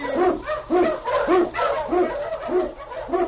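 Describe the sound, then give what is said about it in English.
King, an Eskimo lead husky sled dog in the Challenge of the Yukon, barks repeatedly, about seven loud barks in a steady, rapid rhythm with a faint low hum underneath and no talking. “King, the swiftest and strongest of Eskimo lead dogs, blazes the trail through storm and snow for Sergeant Preston as he meets the Challenge of the Yukon.”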